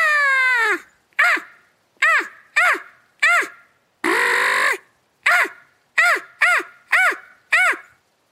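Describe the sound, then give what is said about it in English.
A person imitates a crow with their mouth, giving a series of about ten loud, harsh caws in uneven bursts, with one longer, raspier caw in the middle. “And so I learned how to do a crow call with just my mouth, not a crow call.”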